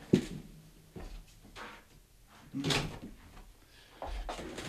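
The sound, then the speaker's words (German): A door is handled and pushed shut, a series of dull knocks, scrapes and latch clicks spread over a few seconds, with a louder bump near the middle and no talking. “Ich muss die Türe zumachen, weil ich höre meine Stimme.”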